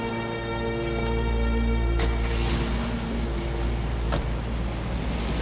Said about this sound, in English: Standing in the wet car park, Michael watches as she drives away.